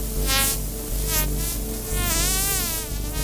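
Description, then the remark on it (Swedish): Harbour porpoise, Sweden's only whale and one of the world's smallest whales, which talks with clicks: echolocation clicks heard as rapid click trains blurring into a steady, loud buzz whose pitch rises and falls as the click rate changes. No voices. “En av världens minsta valar som suger i sig levande fiskar och pratar med klickljud.”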